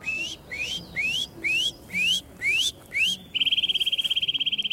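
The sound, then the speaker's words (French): A Eurasian nuthatch whistles a series of seven rising notes in the spring breeding season, then breaks into a rapid trill of many quick repeated whistles, clear with no talking. “Donc, une citelle vous siffle ?”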